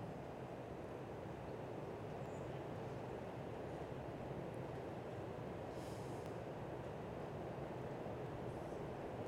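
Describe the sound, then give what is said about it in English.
Heavy rain pours down in a steady, unbroken roar, with a deep low rumble running underneath the whole time. No voices are heard. “Listen to the sound of the rain and the thunder.”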